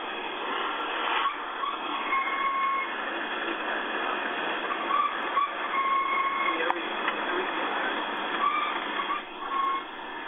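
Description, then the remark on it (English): A car, in a recording, gives off a string of short, thin squeaks just after the ignition key is turned off and the engine stops, coming and going irregularly over a steady, muffled mechanical hiss, with no one talking. “Turn the key off, half a second pause, and then it'll make the noise.”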